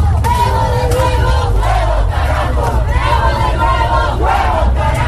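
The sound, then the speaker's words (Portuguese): A large crowd of Bolivians protesting at night in Bolivia, on a Tuesday night, against the vote count of Sunday's elections, shouts and chants together, a dense roar of many voices with rising and falling cries over a constant low rumble, loud and sustained throughout. “Nós não temos medo, gritavam os bolivianos em protestos na noite desta terça contra a contagem de votos das eleições de domingo, apontando o atual presidente Evo Morales como vencedor no primeiro turno.”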